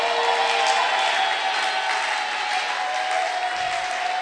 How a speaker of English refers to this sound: If you know your destiny is in the hands of God, based on the choices you make, Clap a loud shout to God's glory.